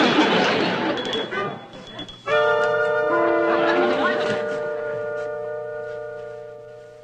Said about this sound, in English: When the bell rings, you run like crazy.